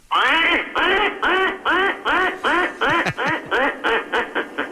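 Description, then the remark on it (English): A loud series of about ten nasal duck quacks, played as a proposed replacement car horn sound for automobiles, in a quick, steady rhythm, sounding slightly tinny and band-limited, with a brief spoken word near the end. “That's a duck.”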